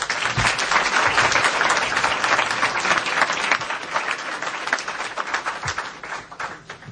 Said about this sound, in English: So please join me in applauding it.